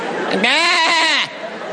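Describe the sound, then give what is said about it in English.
A person's voice mimics a sheep, letting out one loud, quavering bleat that lasts under a second and wavers in pitch before cutting off. “Talking to the sheep.”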